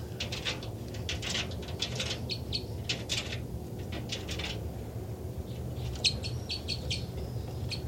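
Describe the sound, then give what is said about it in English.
Two birds, numbered 273 and 274, fly across giving bursts of sharp, high chittering calls, trading rapid clusters of notes back and forth over a steady low rumble, with a brief pause midway before the calling resumes. “That's 274 flying across, followed by 273.”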